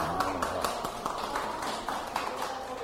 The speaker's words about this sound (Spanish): Un aplauso aquí.